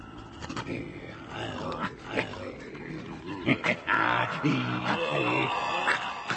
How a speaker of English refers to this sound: No more growling.